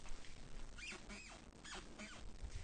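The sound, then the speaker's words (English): A squeaky floorboard in a studio creaks four times in a steady rhythm, each one a short, high, whiny squeal, over a low background hiss. “that's the squeaky floorboard.”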